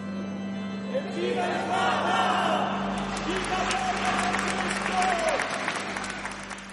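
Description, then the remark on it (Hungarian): Parish faithful applaud in the square in front of their church as they bid farewell to the Pope, a steady, dense burst of clapping that swells and holds for several seconds, with cheering voices and shouts mixed into the crowd noise and a low steady hum underneath. “A templom előtti térre érve tapssal búcsúztak tőle a plébánia hívei, mondván, milyen szép pillanat volt.”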